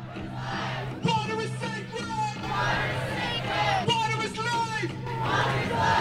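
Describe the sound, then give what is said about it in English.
A crowd of hundreds rallies outside the Supreme Court in support of the Chippewa of the Thames and the Clyde River Inuit during a joint hearing in November, many voices shouting and yelling together in loud, overlapping bursts that rise and fall over a steady roar of noise. “Hundreds rallied outside the Supreme Court in support of the Chippewa of the Thames and the Clyde River Inuit during the joint hearing in November.”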